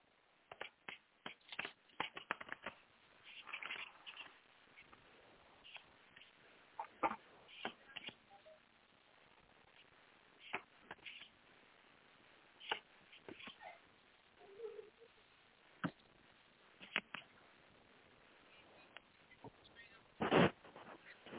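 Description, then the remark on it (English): Cards being shuffled for a card reading: quiet, irregular bursts of crisp snaps and soft sliding rustles, with short pauses between handfuls and a sharper flurry near the end. No one speaks. “I'm just going to shuffle the cards really quick here.”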